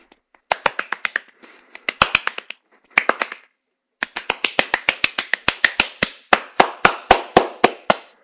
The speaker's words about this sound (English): Oh, by the way, this is episode 30. Woo! Yay! Yeah! Woo! Yeah! Yay! Give myself a round of applause.